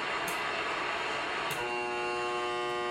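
Steady, loud electronic buzzing static from radio-frequency interference; about halfway through, as an LED bulb is turned on, a harsher tonal buzz with a strong humming pitch, a high-intensity blast of RF from the bulb, joins the hiss and continues to the end. No one speaks.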